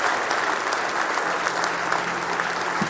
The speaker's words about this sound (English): How many of you glad to be in the house of the Lord this morning? Give him a big hand clap of praise this morning.